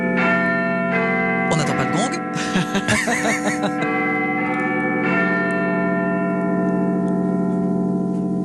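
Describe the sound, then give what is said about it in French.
The Big Ben clock tower bell in London booms with deep, resonant gongs, rung to celebrate Brexit and struck twice, each stroke ringing out in a long humming decay. Voices briefly talk and laugh over the first toll. “Ah le gong, il nous avait manqué.”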